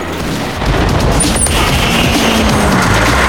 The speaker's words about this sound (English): After taking out another barrier, the driver changes gear and smashes the battery ram into a wall.